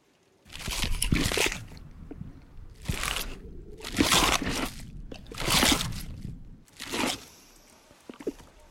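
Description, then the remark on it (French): Loud crunching as someone bites into a crisp apple in the film On est fait pour s'entendre, several bursts of bright crackling spaced about a second apart, followed by softer chewing noises. “C'est l'histoire d'Antoine, devenu au fil des années malentendant et qui redécouvre le bruit de la pluie et de la pomme qu'on croque.”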